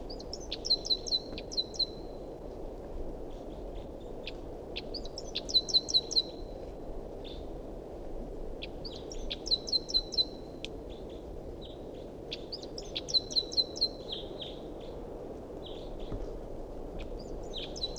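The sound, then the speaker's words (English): Wild bird calls repeat in short bursts of high, bright chirping notes, roughly every four seconds, over a steady low background hiss. Nobody speaks. “Recording a wild bird.”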